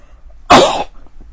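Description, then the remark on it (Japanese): One loud, abrupt sneeze from someone with a slight cold bursts out of near silence, a harsh, breathy blast lasting under half a second before fading quickly. No talking accompanies it. “まあ、すいません、くしゃみが出そうなので。”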